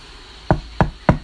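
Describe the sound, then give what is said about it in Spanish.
Three firm knocks on the wooden door of a house, evenly spaced, each a sharp thud with no voices around them. “Sonó en la puerta. El cazador reconoció ese sonido y al abrir vio a la gamita con el plumerito de plumas de garza todo mojado”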